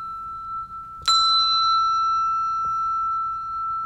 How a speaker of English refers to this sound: This one is called the E6. It's one of our treble bells.